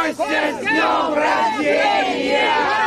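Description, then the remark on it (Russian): A crowd of about 20 Moscow activists shouts together in loud, sustained unison, many voices rising and falling in chanted birthday greetings outside the penal colony in Pokrov where Kotov is held, so he could hear them during his walk, filling the whole stretch without pause. “Там они кричали поздравления с днем рождения, чтобы Котов мог их услышать, пока находится на прогулке.”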